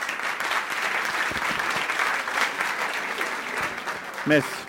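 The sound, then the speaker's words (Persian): Steady audience applause fills the whole stretch, a dense wash of many hands clapping, with a brief voice cutting in near the end. “مرسی تشکر. تشویقش کنید دوستان.”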